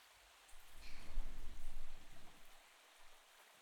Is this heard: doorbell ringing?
no